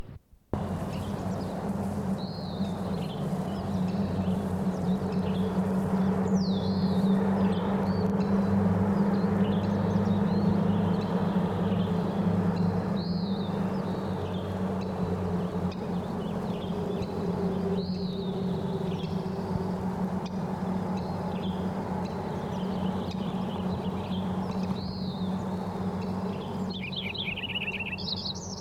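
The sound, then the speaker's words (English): Lincoln's sparrows sing, one from the top of the tallest stalk in a willow and two others also singing, in repeated bright, bubbly phrases that recur every few seconds over a steady low hum, with other faint chirps mixed in and no talking. “There's also two other Lincoln sparrows singing.”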